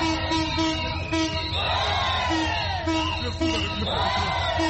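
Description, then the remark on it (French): A lively crowd of market vendors near the central train station in Brazzaville cheers and whoops continuously at a train's arrival, with high rising shouts and ululating voices swelling over a dense background of clapping and chatter. “Ici, toutes les vendeuses ont applaudi l'arrivée du train.”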